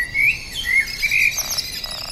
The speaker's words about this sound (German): Wie zum Beispiel auch bei diesen Vogelklängen, die teilweise elektronisch erzeugt wurden. Sie werden durch Solarenergie zum Klingen gebracht und tönen im Rhythmus der Wolken.